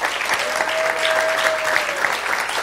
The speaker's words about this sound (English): You all will have to clap because I can't. But clap for each other.